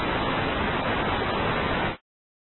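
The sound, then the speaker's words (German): A steady, dense burst of synthetic noise from a random generator hisses evenly for about two seconds, band-limited and uniform like static, then cuts off abruptly into silence. “Strauch und Zufallsgenerator. Falsches Rauschen.”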